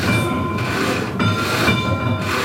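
A church bell swung by a rope rings out loudly, its clangs arriving every half second or so over a steady, shimmering hum of sustained metallic overtones, with no voices.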